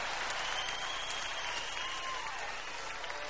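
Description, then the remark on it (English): An audience claps steadily for a few seconds, a dense, even wash of many hands with no break and no voices standing out. “And the only reason y'all clap is because your woman's sitting next to you right now when I ask you.”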